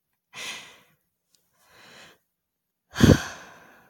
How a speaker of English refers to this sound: I hope you don't mind me breathing on your neck.